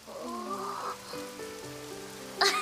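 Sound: rain falling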